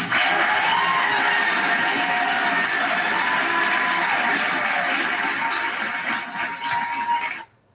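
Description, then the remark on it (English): A large crowd applauds and cheers loudly, with whoops and shouts over steady clapping that holds strong for several seconds before cutting off abruptly. A rally crowd applauding a governor's speech against making vaccines mandatory. “Just the thunderous applause by itself is not worthy, because obviously he's speaking to whatever the people are desiring.”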